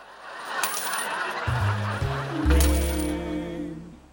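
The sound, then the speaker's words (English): Handfuls of coins are emptied from a woman's pockets in a couple of jingling bursts, metal clinking and scattering, with a low, droning voice-like sound rising underneath toward the end. “Fat Berta empties handfuls of coins from her pockets.”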